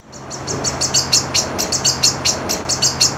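A small bird chirps in a quick, steady series of high, bright tweets, about a dozen short notes in three seconds, over a faint low hum.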